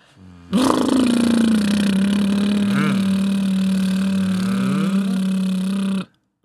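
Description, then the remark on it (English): A loud, steady mechanical whir from the spinner of a Wikipedia random article generator, buzzing like a lawnmower engine for about five seconds with a brief pitch wobble midway before cutting off abruptly. “I think it sounds like a lawnmower.”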